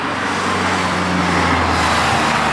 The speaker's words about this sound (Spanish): Hay mucho tráfico hasta ahora, ¿eh? Que es la hora en la que todos acabamos de currar.